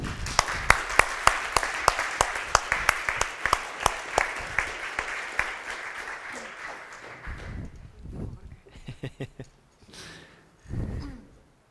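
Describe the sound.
Audience applause: a crowd claps steadily for about seven seconds, then the clapping thins and fades. Afterward a few voices and breaths are heard at moderate level.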